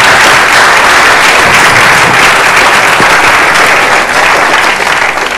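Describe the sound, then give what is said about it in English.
Sustained applause from a sizeable audience, a dense, steady wash of many hands clapping at once, loud and continuous throughout without any voices standing out. “I know, not clapping me.”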